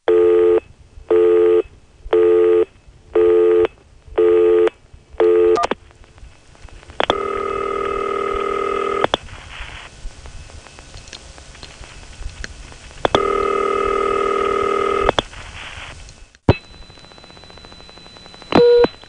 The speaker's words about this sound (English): Of course, on most of the phone tapes, we don't hear the N3 family off hook because we're dialing calls that don't go through, but there are some recordings, thanks to AIS and TSPS, of phone noises coming through off hook N3 carrier trunks.